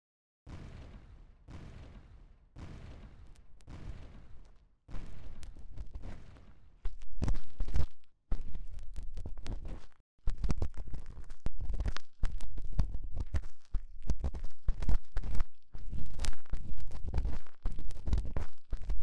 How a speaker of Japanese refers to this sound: 足音うるさくない。もういろいろ踏みつけすぎて何の音かわからなくなっちゃって。